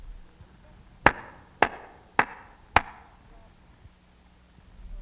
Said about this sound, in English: Now we will all make a loud clapping sound. We will clap 4 times like this.